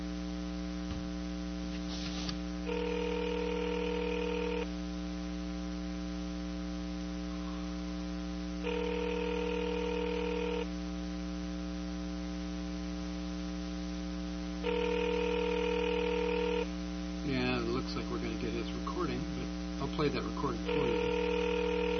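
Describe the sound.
An outgoing phone call rings three times in steady two-second bursts over a constant electrical hum, then a recorded voice answers on the line.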